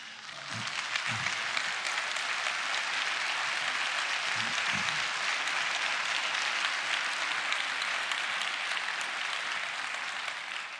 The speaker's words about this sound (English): Father, this applause is for you, for how you have made us and how you've ordered the creation, for the wonderful gift of being a man or a woman, for the powers and joys and the fruit of procreation.